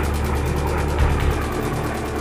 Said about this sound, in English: Rick was taking pictures when he heard a loud bang. "What's that noise?" he asked Frank. "Something's wrong with the engine," Frank yelled as the plane began to lose altitude.